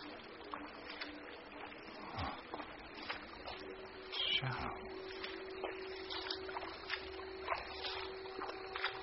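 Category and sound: nature, rippling water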